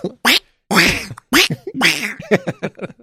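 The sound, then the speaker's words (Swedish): A person imitates Donald Duck (Kalle Anka), letting out a string of raspy, nasal quacking bursts in quick, uneven succession, loud. “Kvack heil.”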